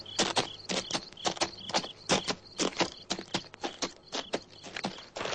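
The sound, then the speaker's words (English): Horse hooves clip-clop in a steady walking rhythm, crisp, with a faint high-pitched chirping and a low hum beneath them. No one speaks. “All right, my good horse. There's water somewhere.”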